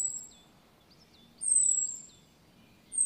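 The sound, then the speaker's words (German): A blackbird's alarm call: thin, high, drawn-out whistles repeated at intervals, with a few short chips in between, heard alone over faint background hiss. “Von einer Amsel hört sich der Alarmruf so an.”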